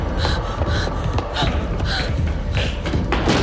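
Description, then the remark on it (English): Quick, evenly spaced thuds of a woman's running footsteps on a polished wooden corridor floor as she races out of a hospital ward, fairly loud, with a busy, breathy background throughout. “Beth turns and races out of the ward and down the polished wood corridor.”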